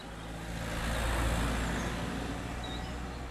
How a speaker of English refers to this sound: All right, well, here comes the first car.